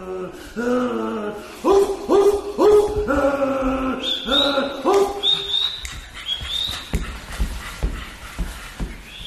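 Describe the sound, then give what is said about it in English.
In a stage play, men's voices imitate dogs, letting out a rapid run of loud barks and yelps, then rising whiny howls, before trailing off into scattered clicks and thumps. “One of the most powerful parts of the play was when the men barked like dogs.”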